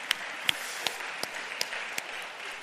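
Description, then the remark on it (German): Applause from an audience at a church service, thanking those who prepared the service and its music, a dense wash of many hands clapping at a steady moderate level, with a few sharper individual claps standing out about every third of a second. “Vielleicht ist es auch ein kleiner Applaus wert von euch allen.”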